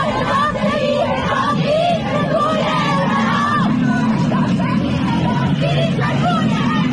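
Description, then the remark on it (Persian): A large crowd of protesters shouts together in the street, yelling that their protest is not about the hijab, with loud overlapping yells and chanting voices forming a steady, dense roar throughout, no single speaker standing out. “معترضین فریاد میزنن که اعتراضشون ربطی به حجاب نداره و مسئله فراتر از این حرفاست، همونجوری که زنان شجاع و فهمیده سیستانیمون جمعه‌ای که گذشت در خیابانها فریاد زدن.”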